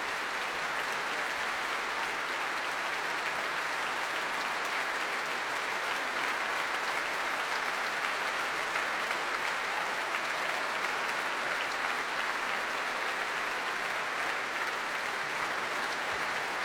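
Sustained applause from a large concert audience after a Mendelssohn concert conducted by Nikolai Znaider, who applauds the audience and gives them a thumbs up; a dense, even wash of clapping that holds steady at a fairly strong level for the whole stretch without pauses or audible speech.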